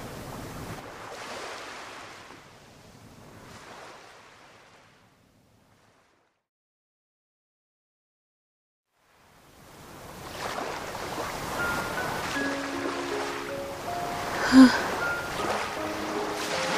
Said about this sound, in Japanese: 波の音だけは変わってないな。